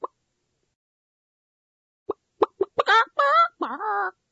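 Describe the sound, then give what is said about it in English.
After a long silence, a few short, sharp clucks build into loud, drawn-out cackling squawks, like a hen, alone with no talking. “Where is my magic chicken?”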